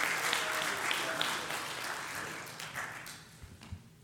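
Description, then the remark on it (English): A church audience applauds in a dense, steady wash of clapping that holds for several seconds, then gradually thins and softens toward the end, with a few scattered voices mixed in, as a preacher comes up to sing and preach at a morning service. “So if you don't mind, will you just give my brother a hand clap of praise as he comes up here?”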